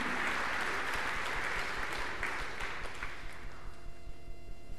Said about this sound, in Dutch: Dat heb je denk ik net al gehoord, maar we mogen nog een keer klappen. Kijk, gaat allemaal klappen. Wil je even zwaaien? Ze klappen, ja.